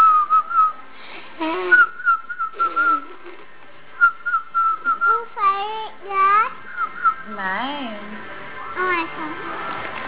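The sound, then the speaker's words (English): A person whistles a series of short, steady high notes with brief pauses, while a young child's voice chimes in between with squeals and babbling sounds. “Whistle baby. Whistle baby. Whistle baby.”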